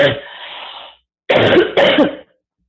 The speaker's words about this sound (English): Oops, I have to cough. Hold on.